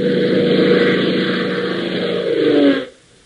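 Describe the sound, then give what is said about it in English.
A steady, loud airplane engine drones with a rough, buzzing hum, its pitch climbing slightly before the sound cuts off abruptly near the end. No voices are heard. “Hop, Tank, and John Temple are roaring southward through a late afternoon sky on their way back to Lakeville after their quick jump to New City.”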